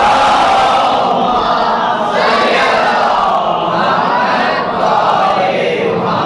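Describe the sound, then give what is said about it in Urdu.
A large audience at a Ramadan religious talk recites salawat, blessings on the Prophet Muhammad, in unison, a dense, continuous wall of many voices rising and falling together at steady loudness for several seconds. “صلوات تو بھیجی محمد”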